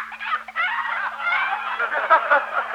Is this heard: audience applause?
no